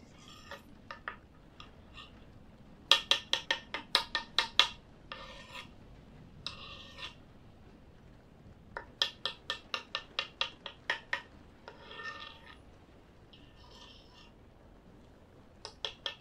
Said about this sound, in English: We are having roast beef, mashed potatoes, and bread. Just chopping up the meat really quickly before I bake it.